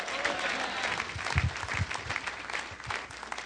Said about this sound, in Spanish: Dale ese aplauso al Señor fuerte. ¡A su nombre!